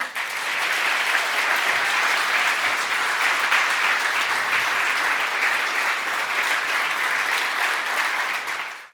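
Sustained audience applause, a dense, steady wash of many hands clapping at an even loudness for about nine seconds before cutting off, with no voices over it.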